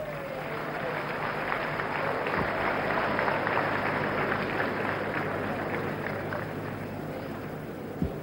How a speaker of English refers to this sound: Okay. Let's clap for him.